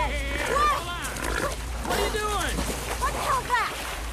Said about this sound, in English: A wild pig trots out of the undergrowth.